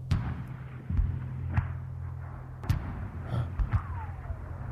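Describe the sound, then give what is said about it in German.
Heavy booms of First World War artillery fire mixed with rumbling thunder, several sharp thuds at irregular intervals over a steady low drone, with a faint whistling sweep near the end. “Hörst du? Donner. Geschütze. Krieg.”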